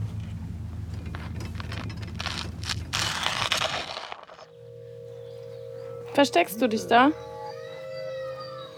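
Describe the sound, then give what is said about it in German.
Wind howls around abandoned buildings on a former hotel site in rising and falling whistling tones, swelling loudest near the end over a steady low drone, with a voice speaking briefly in the first half. “Hörst du das? Das ist der Wind.”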